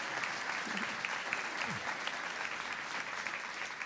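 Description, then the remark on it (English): An audience claps steadily for the evening's panelists and their questions in a dense, continuous round of applause, many hands overlapping in a bright crackling texture that holds level throughout, with a faint voice or two briefly underneath. “Round of applause for our questions tonight from our panelists.”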